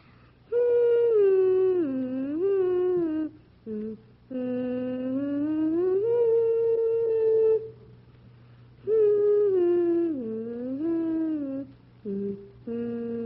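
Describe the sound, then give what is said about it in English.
A six-year-old boy hums the beginning of The Swan by Saint-Saëns alone, voice clear and steady, in long sustained phrases that rise and dip in pitch, broken by short pauses, with the opening phrase repeated. “Can you sort of hum the beginning for us?”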